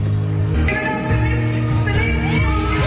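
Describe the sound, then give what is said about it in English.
A dense, loud wall of crowd noise fills the space, with shouts, whoops and yells blending over a sustained roar, like a packed concert audience erupting in cheers. “… recognized her and gave her a shout out. The crowd went nuts.”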